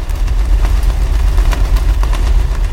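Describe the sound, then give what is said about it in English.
A loud, steady low-frequency engine rumble throbs continuously underwater, with faint repeating clicks and hiss layered above the deep drone of a passing freighter. “Now consider the noise of a passing freighter.”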